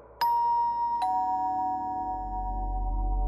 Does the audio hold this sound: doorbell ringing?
yes